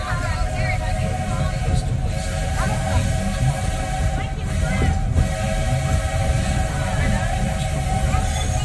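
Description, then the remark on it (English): A steam train runs steadily, a continuous low rumble with a hissing wash and faint whistling tones layered on top, holding an even loudness throughout. “There are some who say that this steam train is a little old-fashioned, but for me, it's the only way to travel.”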